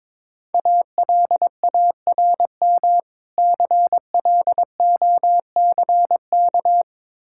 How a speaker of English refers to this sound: Alarm clock.